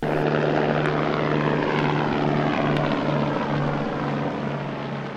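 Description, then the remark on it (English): Steady whirring of multiple propellers from a hovering Vertical Aerospace Valo prototype, an electric vertical takeoff and landing aircraft: a constant buzzing drone with a low tonal hum running through it, loud, no voices. “As the name suggests, and a promotional video shows, it has the ability to take off vertically like a helicopter, but without the noise and pollution.”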